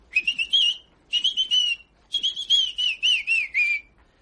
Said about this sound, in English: The next time you feel disposed to whistle some operatic air at 5 o'clock in the morning, I'll trouble you to whistle it with your head out of the window.